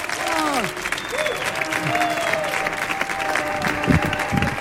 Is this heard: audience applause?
yes